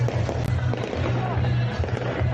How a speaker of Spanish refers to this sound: Así sonaban los fuegos artificiales.